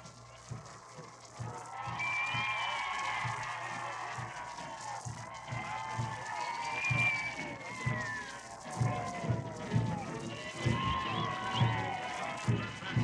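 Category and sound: crowd, crowd cheering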